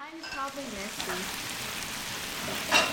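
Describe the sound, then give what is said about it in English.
Bulgogi, a traditional Korean dish, sizzles on a grill at a table in a home in Montgomery, with a steady crackling hiss, a faint voice murmuring briefly at the start and a sharper flare of sizzle just before the end. “Further east, in a home in Montgomery, is the sound of bulgogi sizzling on a grill”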